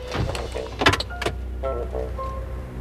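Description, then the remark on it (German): Inside a parked car, a couple of sharp mechanical clunks and clicks ring out as three people, among them an inspector and an officer, unlatch and push open the doors and leave the car, over a low steady hum, with no one talking. “Die drei, Inspektor Milton und Officer Stourbridge, verließen den Wagen.”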